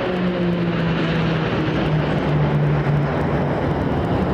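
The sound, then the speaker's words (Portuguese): Airplanes of the Brazilian Air Force's Esquadrilha da Fumaça aerobatic squadron roar overhead at an Independence bicentennial ceremony in Brazil, writing 'Independência 200 anos' and a heart in the sky: a loud, steady engine drone with a wavering hum that holds for several seconds, no voices. “E no céu, a Esquadrilha da Fumaça.”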